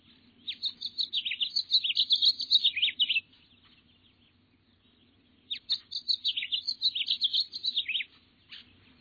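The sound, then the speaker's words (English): A house finch sings two bursts of bright, rambling warbled song, each about three seconds long, separated by a short pause. The singing is clear against a faint low hum. “So that yellow male house finch standing out from all the red ones?”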